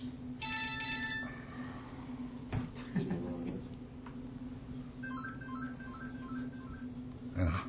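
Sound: cell phone ringing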